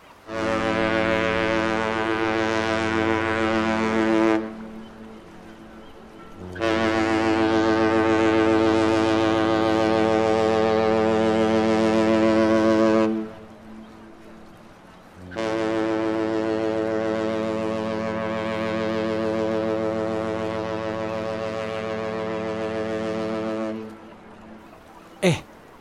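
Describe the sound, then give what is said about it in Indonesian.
A large ship's horn blows three long, loud blasts, each lasting several seconds with short pauses between, a deep droning tone with rich harmonics and no voices. The ship carries buses, trucks, cars and motorbikes. “Itu kapal yang akan kita naiki.”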